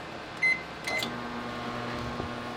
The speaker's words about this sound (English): For most people, a microwave means this.